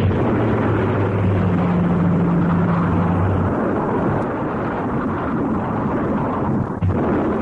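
A dense, continuous roar of Japanese warplanes bombing the American naval base at Pearl Harbor, Hawaii, on December 7, 1941, a low engine drone heavy in the first few seconds, with dull, rumbling bomb blasts blending into the din throughout.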